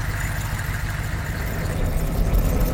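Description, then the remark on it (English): Heavy military truck engines of a column rumble steadily with a deep low-frequency drone, loudness building slightly toward the end as the column starts moving again. No voices are heard. “The column started moving again, and they had only traveled a few minutes.”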